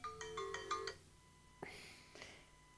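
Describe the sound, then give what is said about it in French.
A mobile phone that was left switched on rings, its ringtone chiming a quick melodic run of bright electronic notes for about a second, followed by a couple of sharp clicks or taps. “Ah oui, petite interruption téléphonique, on avait oublié d'arrêter nos téléphones.”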